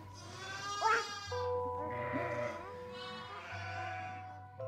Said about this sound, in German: Das Schaf blöket. Sie hat Merkmal gefunden. Dies Blöken, das ihr am stärksten Eindruck macht, das hervorsprang, am tiefsten eindrang, bleibt ihr.